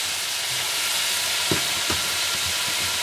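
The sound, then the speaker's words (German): Nearly a kilo of minced beef sizzles steadily in a frying pan as it is browned, a dense, bright hiss running throughout, with a few soft low thumps like a spatula stirring the meat. “Ich hoffe, ihr hört mich trotz, dass das hier so zischelt.”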